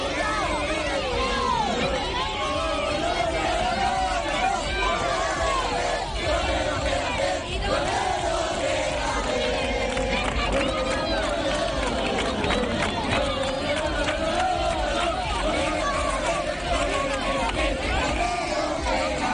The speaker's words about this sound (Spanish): Cordero, quédate, es lo que ha gritado pues todos los aficionados, ¿no?, que estaban en esa zona del fondo norte cuando el futbolista jerezano acudía en masa a agradecer al público la asistencia al entrenamiento a puertas abiertas del Málaga.